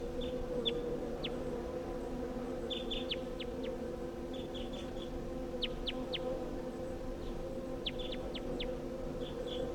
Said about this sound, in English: So recording calls of that wild bird.